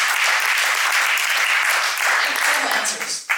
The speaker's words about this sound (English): Very bright crowd. Give yourselves a hand. Thank you for participating.